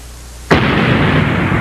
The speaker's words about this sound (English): Oh, my! What do you suppose that is? A musical guest? Why, it is a large cannon! However did that get there?